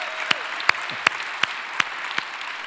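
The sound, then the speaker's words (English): A church audience applauds to welcome its Nagpur, India campus, in a steady, dense wash of clapping, with about six sharper, louder claps landing at an even beat above it. No one speaks. “Would you celebrate that they are worshiping with us by way of applause?”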